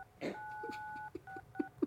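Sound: telephone keypad dialing tones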